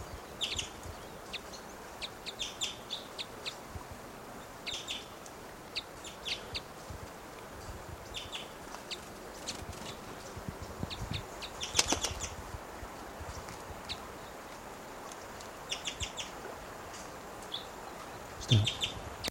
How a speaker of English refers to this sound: Recording that male is coming down. He's giving little cuckoo-like calls.